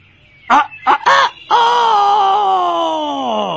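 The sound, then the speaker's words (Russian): A rooster crows loudly at dawn: three short clipped bursts followed by one long, drawn-out harmonic call that holds steady before cutting off. It is the loud-voiced cockerel Petya knocking at the door in a children's tale. “Вдруг стучится на рассвете петушок горластый Петя.”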